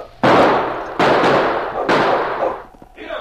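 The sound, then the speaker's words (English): Three loud gunshots crack out from a gully off to one side at uneven intervals, each followed by a long, rumbling echo that fades before the next shot, with no voices. “As Sergeant Preston, King, and Kate stopped where the prospector had been killed, they were suddenly startled by gunshots from the gully off to one side.”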